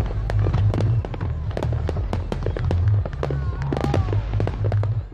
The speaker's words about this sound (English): Millions of Americans are celebrating those fireworks over Austin.